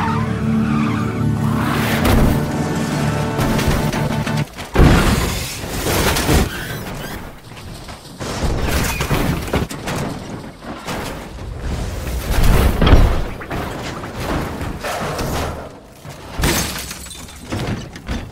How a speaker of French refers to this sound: il a un terrible accident de voiture alors qu'il était avec Tony